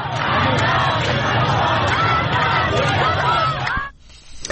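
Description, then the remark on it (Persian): A large crowd of protesting women and men in Iran, after the death of Mahsa Amini, shouts and chants together, a dense, loud wall of many voices that holds steady for nearly four seconds before dropping away abruptly into quieter background noise. “رمزی که شاید در فریادهای این زنان و مردان معترض تفسیر شود.”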